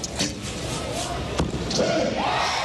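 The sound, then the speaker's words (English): Archery arrows at the archery event of the 2008 Beijing Olympics whoosh through the air in a few quick swishes, with sharp thuds as they strike and a low murmur of spectators and faint voices in the background. “Wow, you actually hear that arrow flying through the air, like that whoosh, whoosh, whoosh.”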